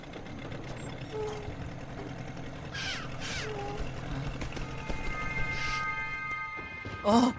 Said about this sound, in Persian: اون یه مرغ دریایی بود. جایی که مرغ دریایی باشه حتما یه خشکی هم هست.